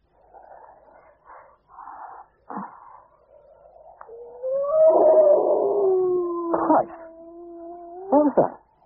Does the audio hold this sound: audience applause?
no